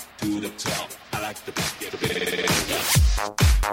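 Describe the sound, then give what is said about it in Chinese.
A telephone rings in quick repeated bursts, mixed into loud, pulsing dance music with heavy bass thumps near the end. “Right, hello, 你的电话响了，宝贝儿，快点接电话吧。”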